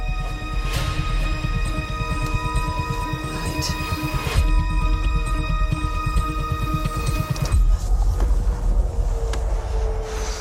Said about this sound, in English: Oh, someone's engine now.